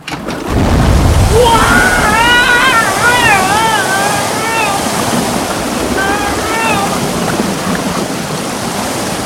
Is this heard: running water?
yes